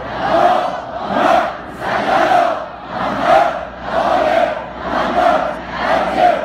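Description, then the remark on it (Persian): A large crowd loudly chants salawat in unison for the souls of martyred firefighters, voices rising and falling in steady, repeated swells roughly once per second, with no single voice standing out. “شادی روح شهدای آتش نشان، صلوات بلند بفرست.”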